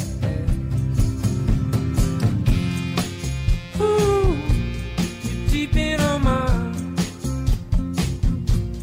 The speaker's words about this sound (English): The lovely, classically trained violin playing. The incredibly on-key and melodic whistling.